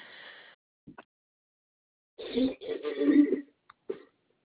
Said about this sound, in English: Okay. Sorry about that. I started coughing.